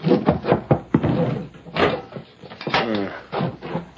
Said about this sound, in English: Wait till I get this door unlocked. All right, inside, both of you.